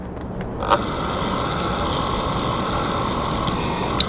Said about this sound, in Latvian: pēc brīža nostrādā relejs un mazais pelēkais motors pagriež domu baznīcas pulkstiņu radītājus par minūti uz priekšu.